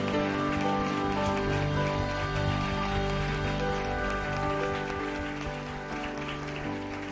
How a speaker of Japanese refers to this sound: もう一度主に大きな拍手を捧げましょう。